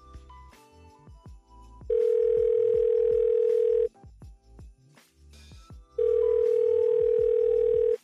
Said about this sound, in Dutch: Ik ben er nu even niet. Spreek je bericht in naar de piep en dan bel ik je zo snel mogelijk terug.